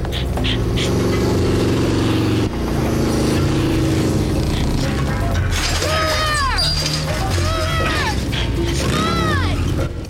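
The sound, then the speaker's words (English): A motorcycle engine roars loudly and steadily, with revving surges and high, swooping whines rising and falling through the second half as Buffy rides it in pursuit of a vampire. “On a motorcycle, Buffy roars after the vampire.”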